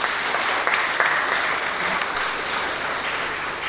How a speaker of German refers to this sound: Wunderbar. Nochmal einen herzlichen Applaus.